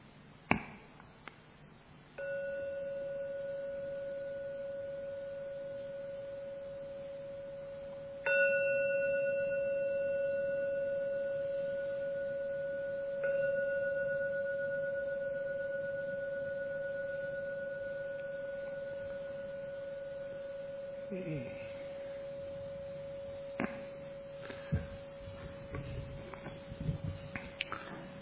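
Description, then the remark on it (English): A meditation gong is struck three times near the end of a meditation, each ring a steady, humming tone that swells in over the previous one and fades slowly, followed by faint rustles and soft clicks. “See if you can listen to every sound of that gong.”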